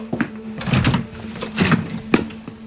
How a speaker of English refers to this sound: I'm walking out my door right now